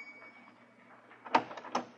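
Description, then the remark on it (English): A doctor's office doorbell jangles in a short burst of bright, rattling rings, with a second shake a moment later, after a stretch of low, quiet hum. No one speaks. “Once in a long while, the doorbell would jangle and...”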